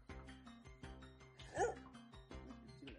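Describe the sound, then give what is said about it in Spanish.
A small dog lets out one sharp, loud bark midway through, rising above a steady background of voices and rhythmic, tonal sound. “No, chicos, y ladra fuerte.”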